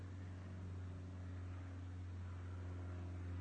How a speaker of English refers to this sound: with the background sounds, like there's a plane in the background, can be a trigger to just feel calmer.